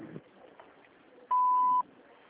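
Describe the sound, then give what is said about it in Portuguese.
A single steady electronic beep at a mid-high pitch, loud and lasting about half a second, over faint background hiss: the record tone of a doctor's office answering machine, signalling the caller to leave a message. “Deixe seu recado após ouvir o sinal.”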